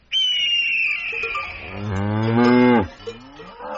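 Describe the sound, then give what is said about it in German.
A single long cow moo, starting high and nasal, then sliding down into a deep, rich bellow before cutting off, heard clearly with no one talking; the cow is one of the animals of the Alps. “Die Kuh.”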